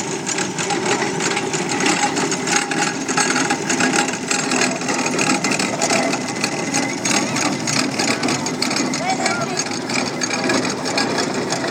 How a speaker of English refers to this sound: Tractor. Well, tractor or a road loco.